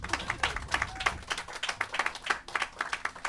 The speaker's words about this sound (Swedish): Vi hälsar våra gäster välkomna med en stor applåd.